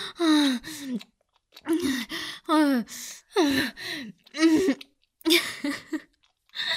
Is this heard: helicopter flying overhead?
no